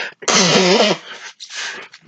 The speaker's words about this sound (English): You know what? I'm going to blow my nose because I feel the nasal getting in there.